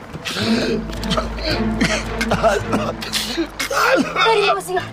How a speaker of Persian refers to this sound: … از درد سرفه میکنه